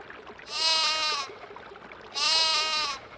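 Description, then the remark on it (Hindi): A lamb bleats twice, each call a wavering, nasal cry lasting under a second, separated by a short pause. The calls are fairly close and clear against faint background noise. “एक भोले भाले भेड़ के बच्चे ने उसे रोक लिया।”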